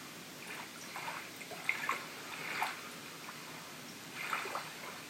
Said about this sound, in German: Entfernt kannst du das Meeresrauschen, die Rufe der Vögel hören.